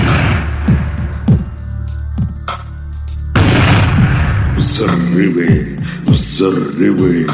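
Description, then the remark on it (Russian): A series of heavy booming wartime explosions, several loud blasts with rumbling low-end tails, repeating irregularly over a continuous noisy background, with some faint voice-like sounds mixed in later. “Взрывы.”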